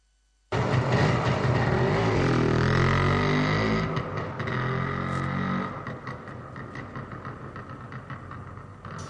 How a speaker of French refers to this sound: Puis, il attache le sanglier à l'arrière de sa vieille moto et il repart vers le village.